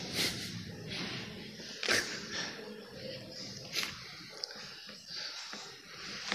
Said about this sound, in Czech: Teď máme nějakého nového posluchače. Čtyřnohého. Nevím, komu to patří. Pejsek.